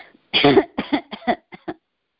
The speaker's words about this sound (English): Obviously, there's some congestion there. So, just coughing it out.